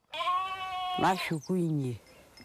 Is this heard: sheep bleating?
yes